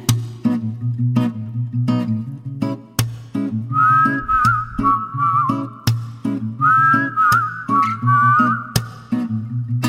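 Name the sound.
whistled melody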